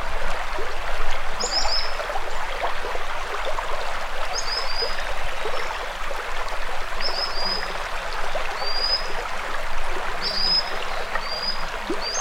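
Sharp, high-pitched calls of a common sandpiper ring out in short bursts every few seconds, cutting clearly through a steady roar of rushing river water.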